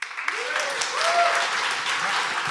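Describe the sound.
A crowd claps steadily in a dense, continuous burst of applause lasting a couple of seconds, with faint voices and a few whoops rising over the clapping. It is the MacFest comedy festival audience applauding to vote on which side is in the right.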